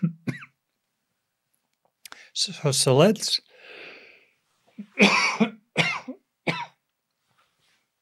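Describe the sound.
A person coughs in a few sharp bursts, separated by short pauses and a breathy exhale, with a brief bit of speech at the start.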